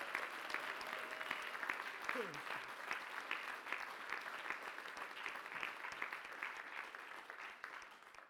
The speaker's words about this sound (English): Let's give God a clap offering he's worthy of.